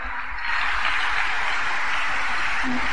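An audience applauds to welcome a speaker who will share her testimony, with a dense, steady wash of clapping that swells in the first half second and then holds at an even, fairly loud level to the end, with no one speaking.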